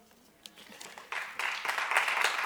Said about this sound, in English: Y'all ain't gotta clap every time, but I damn sure love it.